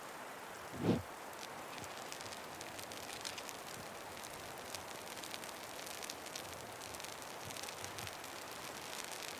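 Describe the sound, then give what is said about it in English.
Rain patters in a soft, even hiss as it slows, with one louder low thump near the start; the downpour stays quiet, with no voices. “As the rain slows, you glance over at the smoldering fire.”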